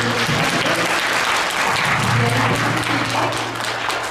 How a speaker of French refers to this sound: Merci à tous. Je pense qu'on va faire un grand applaudissement pour tout le monde.